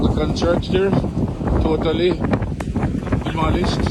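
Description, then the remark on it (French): A steady roar of strong wind buffets the microphone throughout in Black River, in the southwest, where a hurricane made landfall, loud and continuous after the rain has eased, while a person talks over the gusting noise. “Alors que le vent souffle encore très fort, vous l'entendez, la pluie s'est quand même calmée.”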